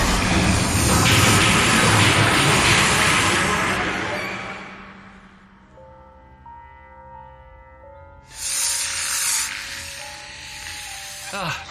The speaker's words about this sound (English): Zoe and Hilsey turned to see 10 or more of the giant slugs heading towards them, hissing angrily. They're attacking. I've never seen them do that before.